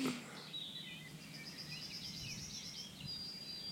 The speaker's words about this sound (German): Aber man merkt jetzt deutlich, dass es in der Intensität des Vogelgesanges rückläufig ist, was nicht heißt, dass noch die ein oder andere Art dann hier irgendwie noch auftritt.